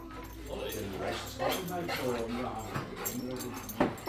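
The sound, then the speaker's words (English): A guide dog visiting a radio station whimpers and gives a few short, high yips amid a steady background hum, with a soft jingle of metal like tags or keys now and then. “Only time ever really ending out of place when the radio station gets another visitor, and it's another happy guide dog.”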